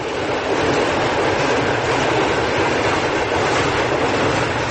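A train rumbles past on the railway tracks right beside barracks housing, a loud, steady roar of wheels and carriages filling the whole stretch without pause.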